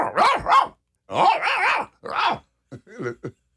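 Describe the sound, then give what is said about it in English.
A person imitates a dog barking, a loud run of about six throaty woofs and growly yaps in uneven bursts, the last few shorter and quicker. “So you all would bark?”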